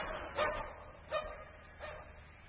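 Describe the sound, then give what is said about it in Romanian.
A dog, Grivei, barks three times at a steady, unhurried pace, each bark short and somewhat muffled, heard over a quiet low hum. “Întrebați-vă, dragă mea, ură de de azi încolo, tu, pisică, vei fi cu câinele ca o soră mai țincară.”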